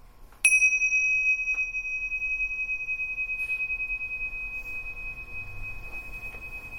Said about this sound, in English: And we'll start with the bell.